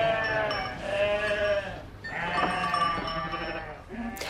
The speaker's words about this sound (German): und bringt dann seine Schafe zurück auf die Alp. Bis Ende Monat sollen sie endlich wieder die Freiheit geniessen,